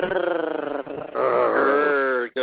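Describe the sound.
People imitate a growl with their voices, a loud, rough, sustained "grrr" that dips briefly after the first second, then swells back and holds before cutting off abruptly.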